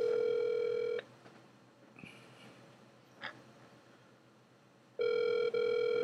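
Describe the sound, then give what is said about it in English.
A phone ringback tone sounds twice, each a steady, loud electronic tone lasting about a second, separated by several seconds of quiet line hiss while the call waits to be answered. “He might answer the phone.”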